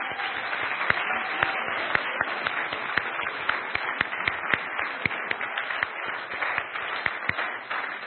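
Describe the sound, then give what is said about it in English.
A crowd applauds steadily for several seconds, cheering for the group of people aged 45 to 60 who have stood up: a dense wash of clapping punctuated by sharp, distinct claps, with a few cheers and whoops rising above it. “Let's cheer for this wonderful group.”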